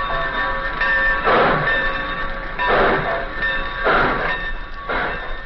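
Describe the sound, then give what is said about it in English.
Train sounds at the Centerville railroad station: loud, rhythmic bursts of hissing chuffs roughly every second or so over a steady, ringing mechanical tone, with no one talking. “The scene opens at the Centerville Railroad Station.”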